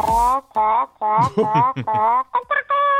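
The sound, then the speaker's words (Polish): A person imitates a rooster crowing, voicing a loud, warbling series of strained calls broken by brief pauses and ending on a held, high-pitched note. “Jaki kogucik.”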